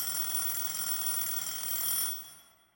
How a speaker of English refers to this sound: The bell rang again, a prolonged rattling ring.